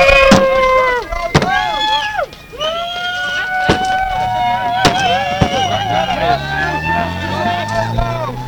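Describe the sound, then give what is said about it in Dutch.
Sharp, heavy bangs and crashes ring out at irregular intervals as an overturned car lying on its roof is smashed and demolished, over a loud crowd of shouting, jeering voices. “Hij ligt dus echt op zijn kop, die auto. Hij wordt nu ook gesloopt.”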